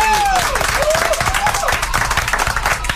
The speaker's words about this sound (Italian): Addirittura l'applauso. Tanti.